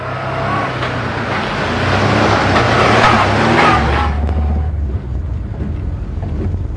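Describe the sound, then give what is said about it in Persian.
A hired taxi drives through a city with a steady engine rumble and broad road noise, which thins out after a few seconds as the taxi slows down to stop. No one speaks. “اتوبوسشو بلد نیستم، باید دربست بگیری.”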